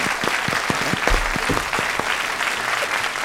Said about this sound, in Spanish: Sí, pero antes os voy a dar un aplauso a todos ustedes. Ah, vale, sí. Genial. Porque han estudiado mucho en la vida, curan a muchas personas y ayudan mucho en la sanidad. Entonces yo les aplaudo.